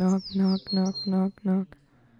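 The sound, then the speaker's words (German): High, quick bird chirps flit above a steady run of five loud, nasal duck quacks in a bouncing rhythm, the two calls overlapping back and forth. “So zwitschern und quaken sie hin und her.”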